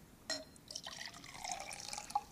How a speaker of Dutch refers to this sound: Dan neem ik nog even een slokje water.